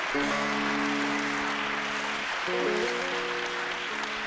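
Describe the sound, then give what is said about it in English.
Loud, dense clapping fills the whole clip like a crowd's applause, steady throughout, with sustained musical chords humming underneath that shift once midway. “That's all my seven students clapping really loud, isn't it?”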